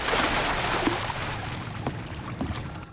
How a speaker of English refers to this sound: Lou grabs the money, picks up a case, and drops it in the water.